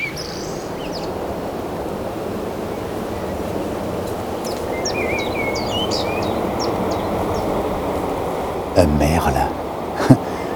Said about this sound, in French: Un merle avec vue sur l'océan.